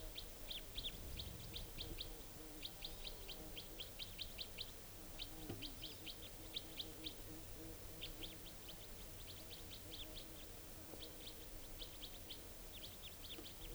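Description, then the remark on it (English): A wild female type 4 bird gives a rapid series of type 4 calls: short, high-pitched chirps delivered in quick bursts with brief pauses between groups, over a low steady background hum, with no talking. “And this type 4 female is calling here.”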